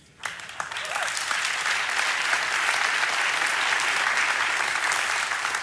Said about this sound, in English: What's really cool is that you're clapping for this, because most of us aren't living it.